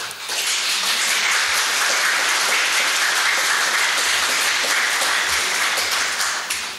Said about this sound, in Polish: jak również pan Zygmunt Prugar-Kettling, który jest synem generała Bronisława Prugara-Kettlinga, dowódcy 2. Dywizji Strzelców Pieszych, których chciałbym powitać gromkimi oklaskami.